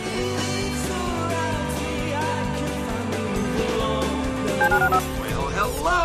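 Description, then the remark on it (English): A run of short telephone keypad dialing beeps in a promo for the listener call-in line of ESPN 97.5 and SportsMap 94.1, over a busy musical bed with a steady, pulsing bass line, the tones bright and fairly loud throughout. “Dial the phone.”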